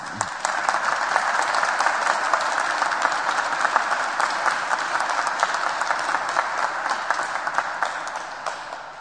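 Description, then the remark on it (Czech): A church audience applauds steadily for a parish couple married 30 years, a dense patter of many hands clapping at an even level for several seconds, with no voices heard over it. “Možná by se vám mohli zatleskat, čau, k těm.”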